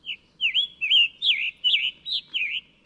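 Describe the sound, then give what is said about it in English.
A recorded bird call played from a bird-song app on a phone repeats a bright, slurred whistled call about six times in a steady rhythm, clear, with no voices or other sounds. “There have long been recordings of bird songs. What's different now, says Farnsworth, is the app is right on your phone.”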